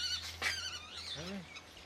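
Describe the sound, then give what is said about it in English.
A bird of prey of a species found on the island of Mauritius gives a short series of shrill, squealing courtship calls, harsh and rising-then-falling, with a steady low hum underneath, as the male holds food for the female. “And courtship for birds of prey, the male feeds the female.”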